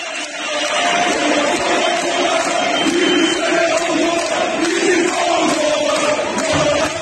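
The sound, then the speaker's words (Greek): A large crowd of Fenerbahçe football fans at the Fenerbahçe stadium chants slogans against Erdoğan in unison, a dense roar with rising and falling sung phrases repeating rhythmically, loud and continuous throughout, with no individual voice standing out. “Είναι μερικά από τα συνθήματα που φωνάζουν οι οπαδοί της Φενέρμπαχτσε.”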